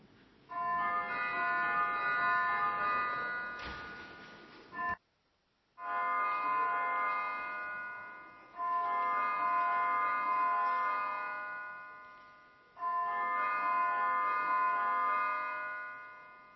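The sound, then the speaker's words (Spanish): A parliament call-to-vote bell, rung to call members to a vote, rings in four long, sustained bursts, a bright steady metallic tone that swells and fades slightly each time, with a brief silent gap after the first. “Así que voy a llamar y una vez acabe la campana de llamado al voto, haré unas aclaraciones sobre la votación.”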